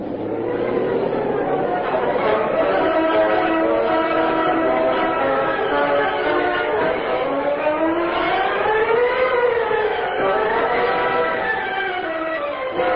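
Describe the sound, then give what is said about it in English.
Several police car sirens wail at once, loud, their overlapping tones rising and falling in long sweeps as the cars arrive in answer to a radio call at the entrance to the Associated Grocers' offices, with no pause throughout. “Parked in a dark alley across from the entrance to the Associated Grocers' offices, Rick Reed and Cato watched with interest as police cars continued to arrive in answer to the radio call.”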